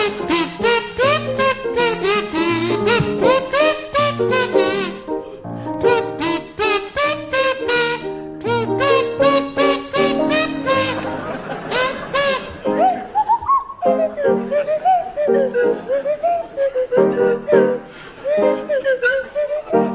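Linda Smith on a buzzy kazoo and Tim Brooke Taylor on a sliding swanee whistle play a bouncy tune together, loud, with the whistle swooping up and down in pitch throughout the twenty seconds.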